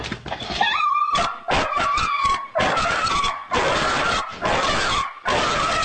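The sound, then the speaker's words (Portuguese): A dog whimpers and whines in distress during its tenth seizure, brought on by fireworks, a high, wavering cry broken into repeated ragged bursts with harsh, noisy edges, loud and sustained with no talking. “Essa já é a 10ª convulsão dele.”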